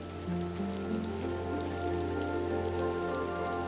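rain falling

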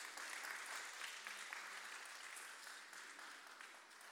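applause

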